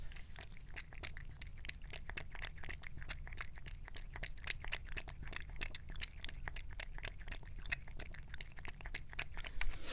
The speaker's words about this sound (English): And now, we will have a few seconds of my cat drinking water out of the kitty water bowl. No, don't sniff the microphone. Just keep drinking the water. Drink the water! Here she goes.